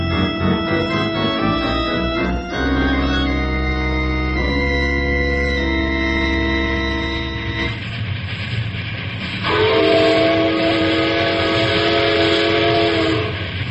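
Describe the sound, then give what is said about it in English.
A steam train whistle blows in long, sustained harmonic blasts that shift pitch, loud over the low rumble of a moving train far away from civilization, with no one speaking. “Hey, lay off that whistle, Tim.”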